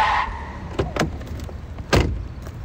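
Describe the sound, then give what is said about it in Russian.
A blue Porsche's car door opens with a couple of quick clicks and thuds, then slams shut with one loud thump over a low engine rumble. “Выхожу из тачки, громко бахнув дверью.”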